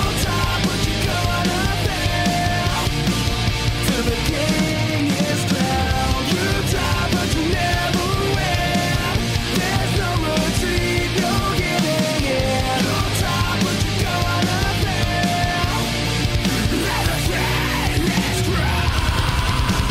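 A loud, dense rock song plays straight through, with driving drums, heavy guitars and what sounds like shouted vocals filling the whole mix at a steady, high volume.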